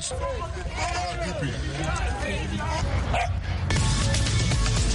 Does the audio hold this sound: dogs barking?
yes